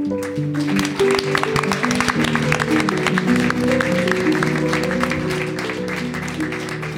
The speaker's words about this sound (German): Applaus auch.